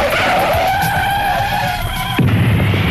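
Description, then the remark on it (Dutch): A car's tires screech in a long, steady, high-pitched skid for about two seconds, then a sudden loud crash cuts in, followed by a heavy low rumble of debris. “Zo, zo, dat was een flinke klap.”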